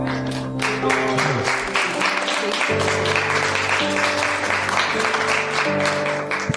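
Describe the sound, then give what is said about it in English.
An audience claps steadily and loudly during a Christian worship service, with sustained organ or keyboard tones ringing underneath the applause throughout. “In fact, why don't you just clap right now?”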